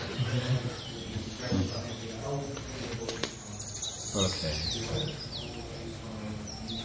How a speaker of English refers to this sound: Birds are starting.